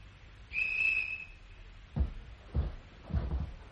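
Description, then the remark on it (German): A single sharp, high whistle blast sounds for about a second as a signal, steady and fairly loud, followed by heavy low thumps or footsteps at irregular intervals. “Was hängst du hier noch rum? Pfeife nicht gehört?”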